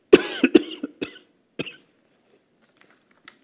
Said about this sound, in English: And there's not, excuse me, I'm going to have a coughing spell.